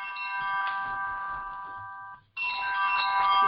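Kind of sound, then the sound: household object, mobile phone ringtone ringing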